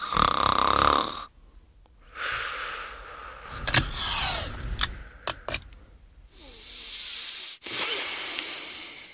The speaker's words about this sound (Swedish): Här hörde vi snarkningar som slutade när någon fick munnen förtejpad. Det låter ju som en väldigt drastisk metod för bättre sömn.